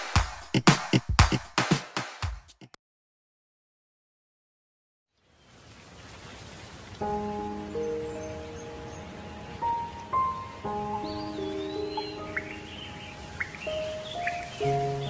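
Steady rain hisses for the second half, with gentle sustained music notes and scattered high bird chirps over it, following a short burst of talking and a moment of silence.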